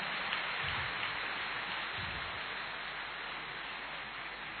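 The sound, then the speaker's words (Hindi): A crowd applauds loudly and steadily during a welcome ceremony, a dense wash of many hands clapping together that holds at an even level for several seconds with no voices over it. “कल तो वो बरसात थी, आज तो ज्ञान रत्नों की वरदानों की बरसात है, इसीलिए तालियां भी जोर से होनी चाहिए।”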